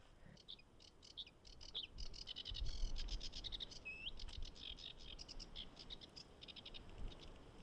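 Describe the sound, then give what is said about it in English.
A small warbler sings from inside a fuchsia bush on a headland, a fast, continuous run of high, scratchy chirps and trills for several seconds, over a low outdoor rumble with no talking. “We can't actually see him inside in this fuchsia bush, but he's singing away behind us.”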